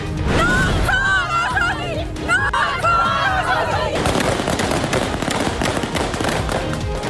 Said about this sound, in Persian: شلیک تیر هوایی در تجمع زنان در کابل. در آستانه یک سالگی حکومت دوم طالبان، نیروهای این گروه زنان معترض را با خشونت متفرق کردند.